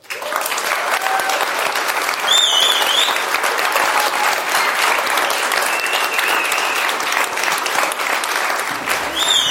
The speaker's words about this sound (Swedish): Och, så jag tänkte be publiken ge en stor applåd för … och ….